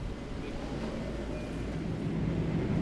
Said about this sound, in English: So get a nice little relaxing, quiet time on the train. At least I don't have to physically drive there the whole time.